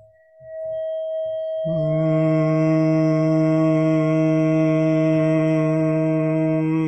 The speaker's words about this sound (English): I'm going to play... 639 hertz, and so if I wanted to tune myself or kind of hum to it, I would just listen to it, and then I would start to make that sound, right? So hopefully you can hear it.